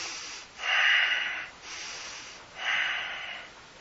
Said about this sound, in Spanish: ¿Inspiramos? Inspiramos, constantemente naciendo algo, constantemente expulsando algo, constantemente creando, constantemente destruyendo.